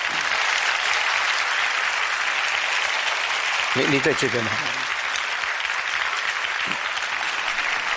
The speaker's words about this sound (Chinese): 我们现在鼓掌欢迎他来